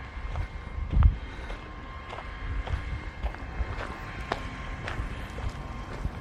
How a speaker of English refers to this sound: It's the sprinklers working on this giant field over here. And it's the water pump and whatever helping to run all the sprinklers for this field.